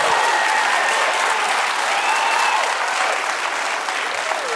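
An audience claps steadily for several seconds, a dense, loud wash of many hands with no pauses, and faint voices mixed into the crowd noise.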